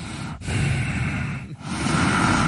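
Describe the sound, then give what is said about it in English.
A person imitates heavy nasal breathing, two long loud rushes of air through the nose separated by brief pauses, with no talking. “You're breathing through your nose in there, because that's what I was like.”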